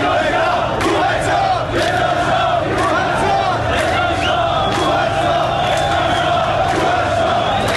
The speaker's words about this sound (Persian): و یکی از شعارهای ساختار شکنانه‌ای که برای اولین بار در دی ماه گذشته به گوش رسیده بود.